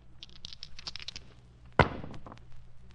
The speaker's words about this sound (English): All right. Roll the dice.